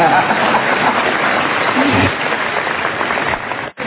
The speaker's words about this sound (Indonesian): Boleh tepuk tangan, boleh.